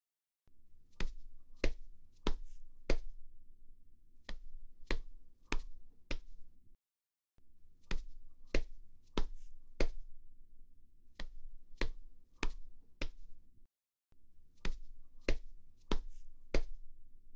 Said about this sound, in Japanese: そうだ、お礼してあげる。そこに座ってて。肩叩きしてあげる。力抜いて楽にしてて。